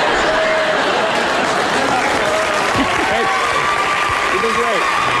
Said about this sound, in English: Well, we'll give him a little extra applause here